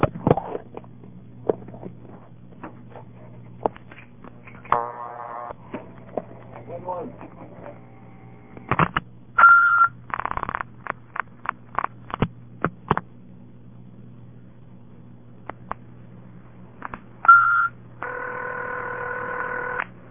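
Telephone dialing tones and clicks as the number 611 is dialed by pulsing: a series of short tone bursts and sharp pulse clicks over a steady low hum, with brief steady tones near the end.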